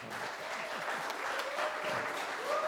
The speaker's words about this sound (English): Y'all give the pastor a round of applause.